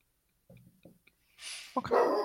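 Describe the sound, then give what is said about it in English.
Dogs bark in a few short, quieter yips at first, then break into louder, overlapping excited barking, with no one talking over them. “I'd like to thank my dogs.”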